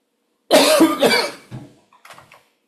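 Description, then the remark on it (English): A fairly loud burst of three or four harsh coughs in quick succession, followed by a couple of softer, trailing coughs as the fit dies down. “I've tried to stop the recording while I coughed.”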